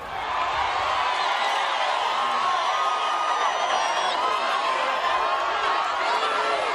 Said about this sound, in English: The train stopped at every station, where a cheering crowd awaited the president.